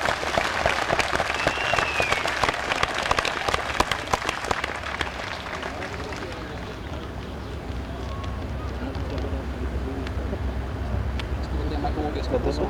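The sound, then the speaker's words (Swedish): Warm audience applause welcoming a speaker, a dense patter of many hands clapping at a steady level for several seconds, then thinning out into a low background murmur. “vi tar emot honom med en varm applåd.”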